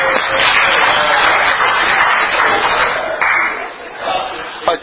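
Steady, sustained applause from an audience, a dense wash of many hands clapping that holds loud for several seconds, then thins out toward the end.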